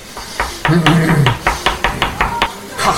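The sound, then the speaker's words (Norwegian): The sharpest knife in the drawer slices potatoes thinly against a cutting board, about nine crisp, evenly spaced strikes, with a brief voice murmuring near the start. “Gi meg den skarpeste kniven i skuffen. Jeg skal gi ham tynne poteter, jeg.”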